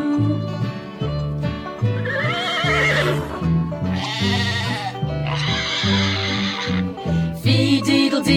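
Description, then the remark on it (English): Farm animals: a horse whinnies and sheep bleat in several wavering bursts over a bouncy, steady musical accompaniment, the animal calls loud, with no talking. “Thank you, horse, sheep, and piggy too, and rooster, I enjoyed your cock-a-doodle-doo.”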